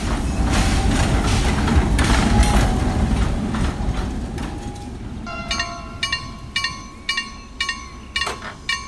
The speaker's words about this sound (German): Ich warte mal, bis der Zug vorbeigefahren ist.